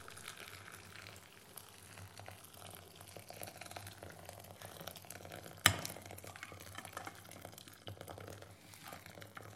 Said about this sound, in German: Auf einem Tisch steht eine große Glasschüssel, in die legt er die Tüte hinein. In einem Wasserkocher bringt er Wasser zum Kochen. Dann gießt er das heiße Wasser langsam in die Schüssel, in der die Tüte liegt. Rührt um.